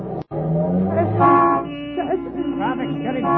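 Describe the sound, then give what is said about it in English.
Dense street traffic with several car horns honking over one another, a continuous engine rumble underneath and sustained tonal blasts layering together. “Traffic's getting heavy. We're almost bottled up.”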